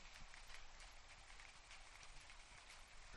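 Rain that is starting to fall patters steadily on corrugated Uralita roof sheeting, a dense, continuous hiss of drops with slight rises and falls in intensity and no voices.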